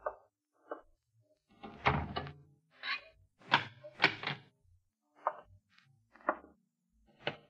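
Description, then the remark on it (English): The doors of a house shut one after another with heavy wooden thuds as they are bolted before someone leaves, followed by clunking latches and bolts sliding home, an irregular series of solid knocks with no voices. “Now you'd better run along and make sure all the doors are bolted before you leave.”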